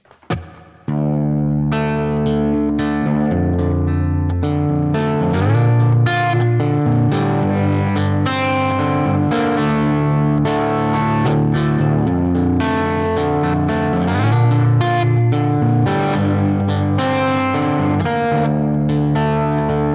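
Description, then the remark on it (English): A clean electric guitar, a Gretsch Mendocino with flatwound 12-gauge strings, played through a Princeton-style amp preset built in Tone-X, plays sustained chords and melodic lines for about twenty seconds, with a little reverb tailing the notes. Steady, fairly loud, no voices. “So for Tone-X, I built like a Princeton style preset and added a little reverb on the end.”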